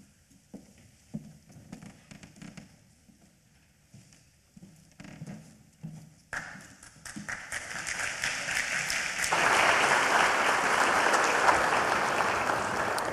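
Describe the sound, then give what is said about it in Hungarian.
Scattered claps begin softly, then swell around the midpoint into steady, dense applause from a lecture audience as a speaker is invited to give his talk, holding at full strength until the end. “Köszönöm ezt a bátorító tapsot, mert a Szegedi Egyetemen még nem sikerült előadnom.”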